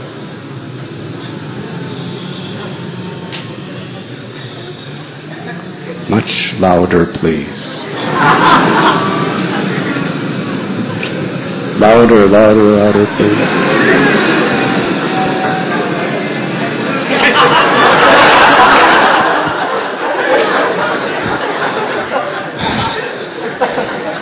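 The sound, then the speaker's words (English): A crowd of people imitating buzzing bees, a sustained, rough droning hum that swells louder in waves while a man's voice repeatedly urges them on over it. “Do you all know what bees sound like? Everyone, try to do as best you can.”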